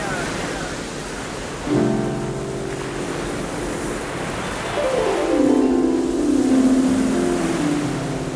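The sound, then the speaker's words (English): Sea waves rush and break on the shore at Brighton seafront in a steady, broad wash of surf, joined partway through by sustained humming tones that swell and slide downward. No one speaks. “The sea, the beach and coastline hold a special place in the human imagination.”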